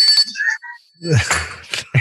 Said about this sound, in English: This is the wrap it up bell.